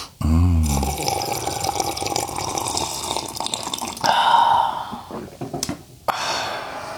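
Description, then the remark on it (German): Freshly brewed coffee poured in a steady, splashy stream that opens with a brief low gurgle, swells louder midway, then stops with a short clatter. No one speaks. “Ach, darauf nochmal ein Schlückchen wunderbaren, frisch aufgebrühten Kaffee.”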